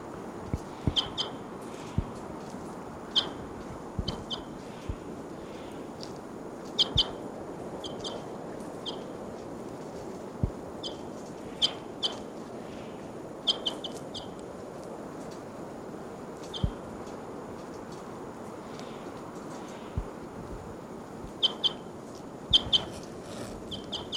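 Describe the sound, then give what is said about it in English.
A bird, numbered 748, being handled near Onion Saddle gives repeated short, high-pitched chirps at irregular intervals throughout, mixed with sharp clicks and rustling handling noise over a low, steady background hiss. “Now I'm near Onion Saddle, and I'm going to be handling bird 748.”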